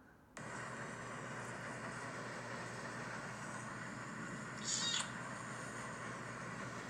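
Naicha, a cat, vocalizes over a steady, rough, continuous purring rumble on its first day using new tofu cat litter after mineral litter, with one brighter, sharper meow-like cry standing out briefly toward the end. No one speaks.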